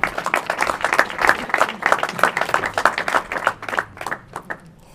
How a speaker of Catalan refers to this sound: Podem aplaudir-nos a nosaltres mateixos.